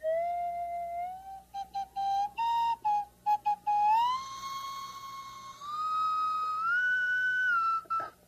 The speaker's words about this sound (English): Here's something you can have a lot of fun with. What is it? It's called a slide whistle. It's a small slide whistle, but it's kind of nice. You can change the pitch on it. Just blow it.